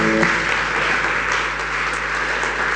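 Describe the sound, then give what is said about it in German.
A church audience at Ecclesia Langenfeld applauds Jesus during a service, steadily, a dense wash of many hands clapping at once, fairly loud and sustained throughout with no voices standing out. “Liebe Gemeinde, können wir an der Stelle mal Jesus einen guten Applaus geben?”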